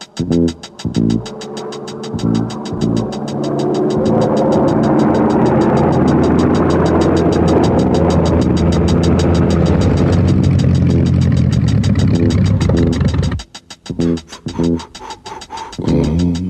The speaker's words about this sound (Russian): Мотор снова заглох. Самолет мой. Столько раз пробит и залатан, что я удивляюсь, как это он вообще летает. Если немного подождать, опять потянет. Но для этого нужен запас высоты, а высоты у меня нет.